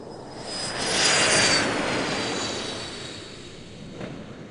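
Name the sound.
jet airplane engine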